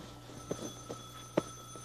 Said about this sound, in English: Oh, there's a telephone. Okay, coming.